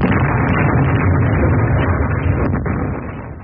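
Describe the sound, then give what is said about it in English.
A loud, sustained roar of a bomb explosion rumbles steadily for a few seconds, dense and low, before easing slightly at the end. No voices are heard. “And there was a terrible explosion.”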